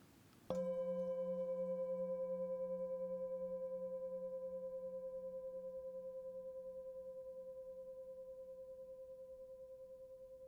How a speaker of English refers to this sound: As you hear these bells,